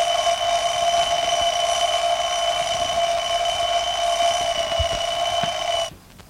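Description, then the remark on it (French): An alarm clock rings loudly and continuously with a bright, steady metallic bell tone for about six seconds, then stops abruptly, leaving faint room noise with no talking. “Alexandre alla s'occuper de ses pendules. Pendule et réveil.”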